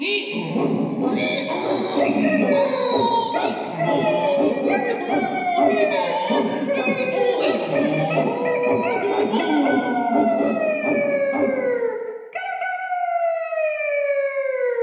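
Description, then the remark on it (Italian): A donkey braying, a dog barking, a cat yowling and a rooster crowing all at once at a window, stacked on one another, in a loud, continuous, chaotic chorus, finishing with one long drawn-out wailing call. “L'asino ragliava, il cane abbaiava, il gatto miagolava e il gallo cantava.”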